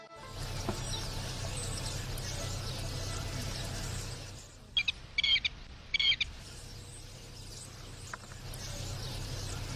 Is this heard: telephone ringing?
no